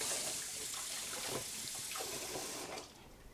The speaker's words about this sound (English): And the rest is just stuck to my hands, and that's what it's going to be. All right, so go wash your hands.